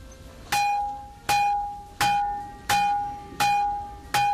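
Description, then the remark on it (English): Rocks at Carnmenyn in Wales, the source of the Stonehenge bluestones, struck six times at a steady pace, each sharp hit ringing out with a clear, sustained bell-like tone that slowly decays before the next strike. No voices. “That's not a bell, but the sound of rocks being struck at Carnmenyn in Wales, which also happens to be the source of the Stonehenge bluestones.”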